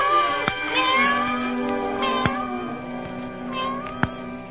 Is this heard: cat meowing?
yes